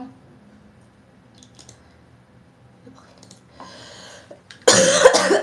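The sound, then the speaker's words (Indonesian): A quiet stretch gives way to a rough, breathy throat sound, then one loud, harsh cough bursts out near the end, with no talking. “Manifesting batuk saya sembuh besok.”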